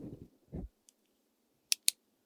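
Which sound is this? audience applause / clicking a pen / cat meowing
clicking a pen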